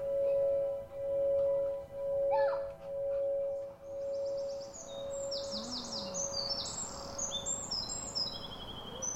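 Tiny birds sing loudly in a busy, squabbling chorus of bright, high chirps and rapid trills, rising after a steady low pulsing hum that fills the first half.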